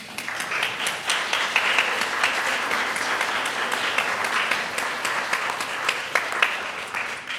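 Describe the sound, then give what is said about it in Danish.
A crowd applauds steadily for several seconds, dense overlapping claps forming a continuous bright patter with a few sharper individual claps standing out. No one speaks. “Jeg vil gerne have lov til at klappe af alle jer.”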